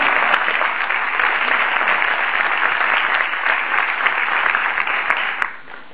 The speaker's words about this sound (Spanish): Uy, como mejoramos ese discurso, estaba bueno. Denle un aplauso por él.